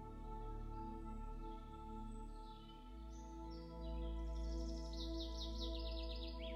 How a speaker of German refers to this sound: Saftiges Grün, weiche Erde unter den Fußsohlen, bunte Blüten, geschäftiges Treiben der Tiere um euch herum. Ein Summen, ein Zwitschern.